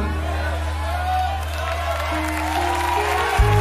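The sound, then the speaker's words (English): An audience claps steadily throughout, with scattered whoops and cheers mixed into the crowd noise over a constant low hum. “Come on, give a good hand clap, man.”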